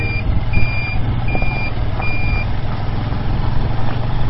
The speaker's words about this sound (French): Notre arrivée coïncide avec le ronronnement de la grue chargée de regrouper les ordures et les entasser dans les bennes à ordures.